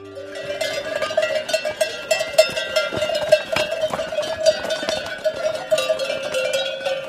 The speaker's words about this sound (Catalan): A l'hivern els acosten a les planes o a les valls i a l'estiu els pugen als cims de les muntanyes. És un moviment mil·lenari que ressona encara avui amb les esquelles que viatgen pels camins ramaders.